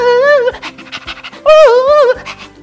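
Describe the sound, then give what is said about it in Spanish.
Quick, breathy dog-like panting puffs alternate with two rising-and-falling wailing whines, fairly loud, seemingly a human voice imitating the panting and siren of a story's fire truck with legs and its tongue hanging out. “Apareció un carro de bomberos con patas y con la lengua de fuera.”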